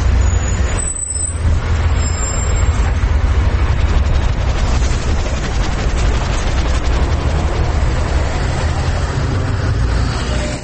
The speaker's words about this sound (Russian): Это автобусная остановка в 7:30. Это сам автобус. А это улица Маршалковка, где я выхожу из автобуса.